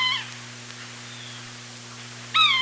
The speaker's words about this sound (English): Careful moviegoers might recognize bird calls in the movie soundtracks, like the yellow-bellied sapsucker that calls as Richard Dreyfuss stalks his quarry in Stakeout.